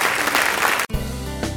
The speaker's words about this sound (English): Just say bless the Lord and give Him a hand clap this morning. Amen.